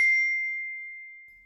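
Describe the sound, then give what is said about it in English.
A single bright bell ding strikes once and rings out with a clear sustained tone, slowly fading over a second and a half, with no voices. “Now, listen again to the listening and repeat some words after hearing the bell.”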